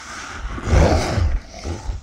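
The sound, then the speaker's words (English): A deep, rumbling monster roar swells loudly and holds for about two seconds, growling and raspy with heavy low-end rumble, alone with no voices. “It let out a roar.”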